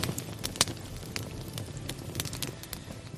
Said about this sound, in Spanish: Hablamos de ello en su momento y queremos insistir porque ahora ya cada vez hay más gente que se suma a esta historia, a la de relajarte observando el crepitar de un fuego, cómo refulgen las brasas y va cambiando de color.